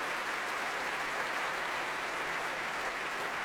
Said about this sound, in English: Back comes Vilde Frang. Striking figure with pre-Raphaelite auburn hair, you might say. Applauding the orchestra.